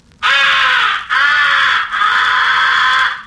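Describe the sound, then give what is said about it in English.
Three loud, harsh crow calls blown on a hand crow caller as the comeback call, used to bring back crows that have been shot at. Each caw is long and raspy, following one another with only tiny breaks between them, with no one talking. “The fourth essential call is the comeback call. It is used mixed with the recognition call and the fighting call on incoming crows.”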